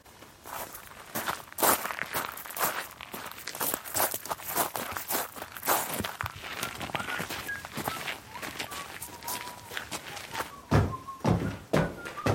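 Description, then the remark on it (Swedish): Steady footsteps walk back to the entrance of a sensory art park at an even pace, each step a crisp, scuffing thud. Faint whistled tones drift in toward the end, and a loud burst of steps closes it. “Ja, så går vi tillbaka till entrén.”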